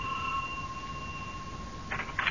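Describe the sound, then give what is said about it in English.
A doorbell at a neighbors' house rings with a steady, high electronic tone held for nearly two seconds, followed by a couple of brief, brighter bursts at the end. “Ring the bell.”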